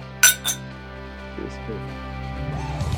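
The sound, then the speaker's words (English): Two bright glass clinks in quick succession, crisp, as glasses touch in a toast, followed by low murmuring voices in the background. “I'm happy to drink more with you guys, but we'll do it off camera.”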